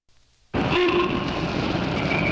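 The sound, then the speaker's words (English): After a brief hush, a Great Northern Internationals passenger train, serving Seattle and Vancouver, B.C., suddenly roars in loud, a steady heavy rumble with a horn tone sounding over it briefly. “You can't afford not to ride these trains.”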